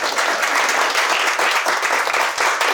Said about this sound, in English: That's really good. See, that deserved the applause, not the first line.